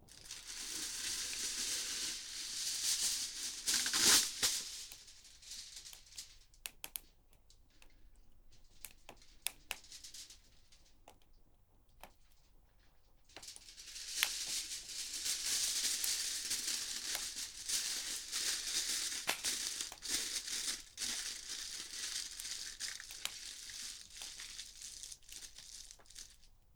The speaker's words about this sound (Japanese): この焚き火で焼き芋を作っちゃおうってね。これで一石三鳥ってわけ。これをアルミホイルで包んでと。